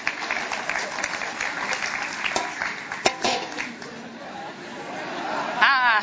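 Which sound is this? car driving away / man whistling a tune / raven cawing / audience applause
audience applause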